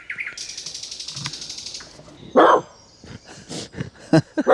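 The radio dog Gunnar lets out a handful of sharp, loud barks at uneven intervals, following a stretch of high, rapidly pulsing birdsong that carries on faintly underneath.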